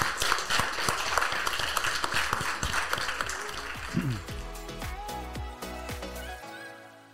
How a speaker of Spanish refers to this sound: ¡Aplausos!